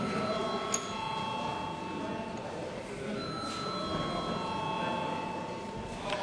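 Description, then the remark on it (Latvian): A parliament voting bell in the Latvian Saeima rings steadily for about six seconds. It is a sustained, even electric ringing tone over a low background rumble, with no pauses. It is rung to call a vote on amendments to the session agenda. “Katrā ziņā ņemot vērā to, ka deputātiem ir iebildumi pret darba kārtības grozījumiem, jebkurā gadījumā šis jautājums ir jābalso, un tātad balso, lūdzu zvanu.”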